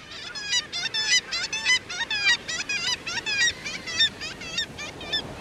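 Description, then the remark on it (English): A dense chorus of black-legged kittiwake calls, nasal and repetitive, many birds overlapping in a steady, noisy stream with no voices present. “In winter, black-legged kittiwakes can be found along the west coast from southern Alaska to Baja California, and along the east coast from Labrador to Florida.”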